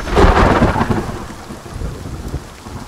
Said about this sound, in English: The monsoon season begins. Winds from the south draw tropical moisture northward into the Sonoran Desert. Moist air colliding with intense heat and mountainous terrain breeds epic thunderstorms.